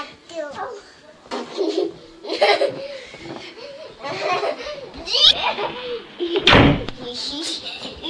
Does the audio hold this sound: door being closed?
yes